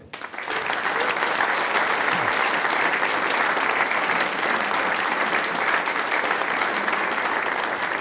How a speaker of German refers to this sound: Natürlich gibt's auch für alle Mitwirkenden noch einen Applaus.